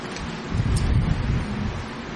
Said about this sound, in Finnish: Kato, kun täällä tuulee.